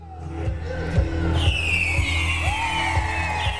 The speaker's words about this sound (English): Fireworks shoot up into the air near Pagoda Park in downtown Seoul.